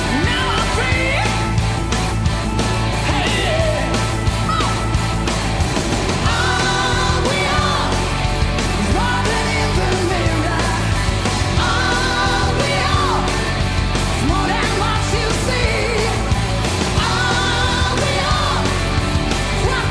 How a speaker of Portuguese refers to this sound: Às 8 horas em ponto, já se ouvia um ruído de música pesada.